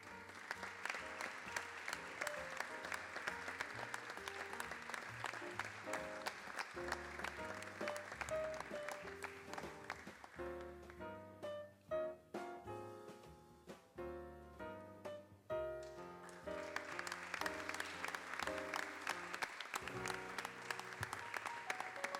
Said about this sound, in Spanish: Fuerte el aplauso.